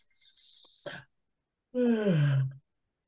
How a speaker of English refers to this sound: Did you just open the podcast with a yawn? Are you serious right now? That was completely unplanned.